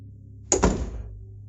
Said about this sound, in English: I heard the door close.